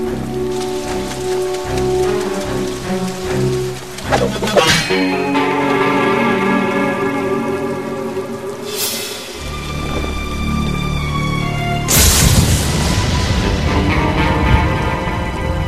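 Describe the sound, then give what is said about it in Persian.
Steady rain falls throughout, a dense patter layered with sustained musical tones and a few sweeping swells, with no one speaking. “بدون کت راه راهت زیر بارون نیا.”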